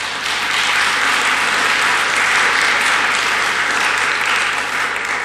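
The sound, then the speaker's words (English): A loud, sustained burst of applause from a large crowd thanking the people who help with the coffee service, dense steady clapping that holds at full strength for several seconds with no voices standing out. “Thunderous applause.”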